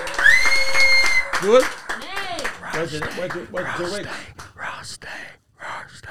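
An audience applauds, with loud whoops, a sustained high shout and rising and falling cheers over scattered clapping that continues for several seconds.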